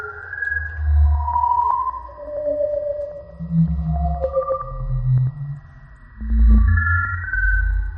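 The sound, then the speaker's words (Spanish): An eerie black hole sonification from NASA data: drifting, gliding tones that rise and fall over a deep rumbling drone, steady and continuous with a brief dip before swelling again. No voices. “Esto es un agujero negro.”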